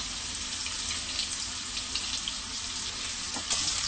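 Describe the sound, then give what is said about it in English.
Steady, crackling sizzle of vegetarian soup ingredients frying in a pan, a dense continuous hiss with small pops scattered throughout, fairly even in loudness, with no voices. “Let it fry a little bit.”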